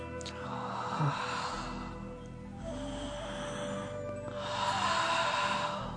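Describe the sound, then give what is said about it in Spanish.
Slow, deep conscious breaths drawn in and let out as a breathing exercise, about three long airy whooshes in a steady rhythm, fairly loud, with no talking. “Entonces comenzamos esa respiración.”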